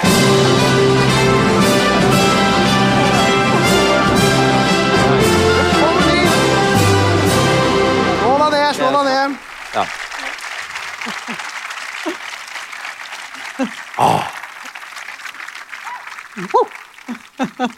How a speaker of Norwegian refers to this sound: Det er alltid fint. Var ikke det? Er ikke det stas med applaus? Ja, fantastisk.